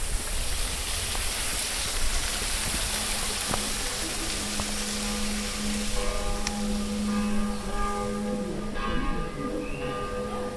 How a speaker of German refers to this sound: Tja, und Glocken, so wie jetzt diese vom Kirchturm in Fresach, sie wurden den Evangelischen erst im 19. Jahrhundert erlaubt.